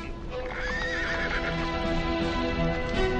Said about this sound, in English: Two horsemen are coming slowly.